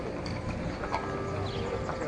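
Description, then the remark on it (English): Several robbers' horses clip-clop in a steady, busy rhythm as the robbers hurry out of a bank and mount them, the animals moving together with a constant outdoor murmur behind them. “The robbers hurried outside and got on their horses.”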